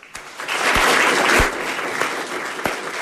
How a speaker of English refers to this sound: She heads down the halls of Anaconda High with Governor Bullock to the cheers and applause of students who have stepped out of their rooms for a minute.